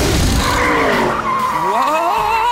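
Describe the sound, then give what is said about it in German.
A loud tire skid with a high rubbery squeal and rumbling engine noise underneath, lasting the whole moment with wavering pitch as a solar-powered race car slides out of control, suddenly losing all its wheels at once. “Oh nein, plötzlich hat Lutz alle Räder auf einmal verloren.”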